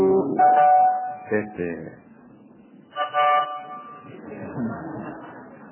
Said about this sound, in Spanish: Todo el colectivo detenido en mitad de la calle. Mitad de una calle estrecha, además. Estaban todos tocando bocina atrás.